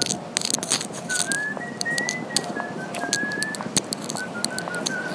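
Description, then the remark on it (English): Someone whistles a simple tune, moving through a string of sustained, steady notes at a moderate volume, with scattered clicks and knocks in the background. “Whistling.”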